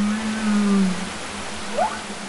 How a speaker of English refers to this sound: they're really interested in seeing how the humpback's communication might change because of that